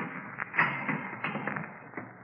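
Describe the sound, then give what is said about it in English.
A heavy door latch turns with a sharp metallic clack, followed by a few softer taps and clunks against a low, steady background rumble. No one speaks. “I glanced at my watch at 11:15, and right after that, I heard the heavy latch on the door being turned.”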